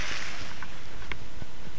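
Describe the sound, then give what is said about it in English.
A car swishes past on a wet road in cold, slightly snowy drizzle, its tires giving a steady, loud hiss of spray that fills the whole moment, with no voices. “Ah, there's a car.”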